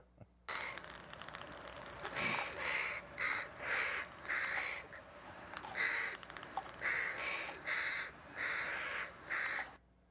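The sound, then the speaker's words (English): A crow caws over and over, a run of about a dozen loud, harsh calls in quick, uneven succession, with no one talking. “By the way, if you let that run, he kills the bird.”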